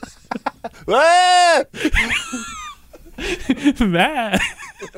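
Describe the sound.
A person imitates a goat's bleat with a loud, sustained, wavering cry lasting under a second, followed by more quavering vocal noises and laughter-like sounds.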